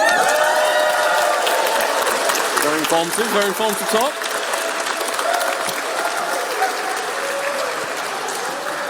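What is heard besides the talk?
audience applause and cheering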